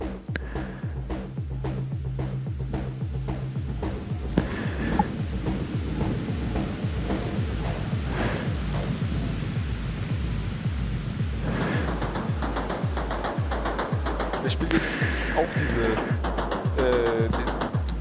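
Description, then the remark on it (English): A synthesizer cycles through a steady, repeating pattern of pulsing low tones and sharp clicks, each hit trailing off into heavy echo that smears into a continuous, throbbing wash. “And so this is basically playing the same pattern. We still have a lot of echo on this.”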